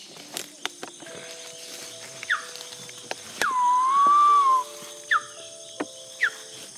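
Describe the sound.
A guide at Tiputini Biodiversity Station imitates a woolly monkey call: a loud, sustained, slightly wavering mid-pitched cry, with a few short rising chirps before and after it over a quiet, buzzing background.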